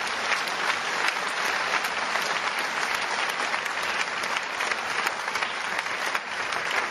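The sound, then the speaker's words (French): An audience applauds steadily to honor the volunteers who clean the hall each week, a dense, continuous wash of many hands clapping at an even loudness for several seconds, with no one speaking over it. “Peut-on un instant les applaudir simplement et leur les honorer?”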